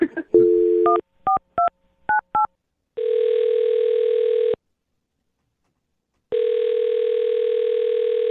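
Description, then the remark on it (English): A steady dial tone gives way to a quick series of touch-tone keypresses as a man's phone number is dialed on the Brooke and Jubal in the Morning radio show for a second date update, then long ringback tones sound twice with a pause between, clear with no talking. “I'm going to dial his phone number right now, get him on the phone, and get your second date update.”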